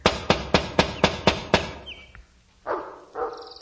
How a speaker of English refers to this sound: Therefore, I move that she knock and gain admission for the rest of us. All right. No answer. Try again, and louder.